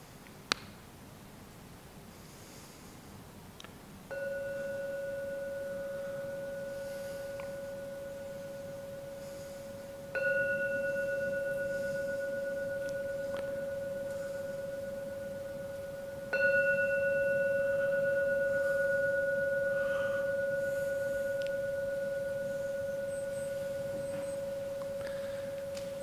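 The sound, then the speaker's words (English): A meditation gong is struck three times, evenly spaced, each strike ringing out in a long, steady, mid-pitched hum that overlaps the next. No one speaks. The third strike signals the end of the meditation. “Oh, now ring the gong 3 times. When the gong finishes sounding for the 3rd time, it's the signal to come out from your meditation.”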